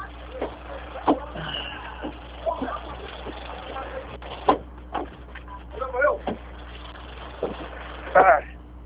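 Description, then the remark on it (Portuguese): Steady engine rumble and street noise as someone steps off a crowded bus, with scattered thumps and clicks and muffled voices, sounding thin and compressed like a phone call. “Espera aí, estou descendo aqui do ônibus aqui, vou te responder, peraí.”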